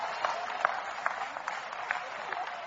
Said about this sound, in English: Oh, come on, clap anyhow. Praise God.